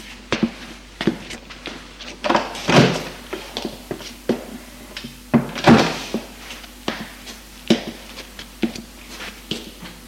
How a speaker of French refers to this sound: Sans éclairer, suit un petit couloir et ouvre une porte.